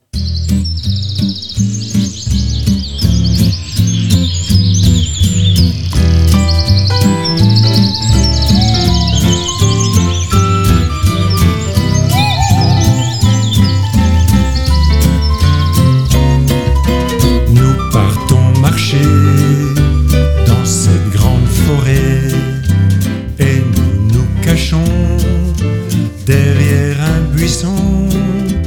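Bright, high birdsong chirps and trills run over a loud, steady musical backing with a deep bass line and regular percussive beats, continuing throughout without any talking.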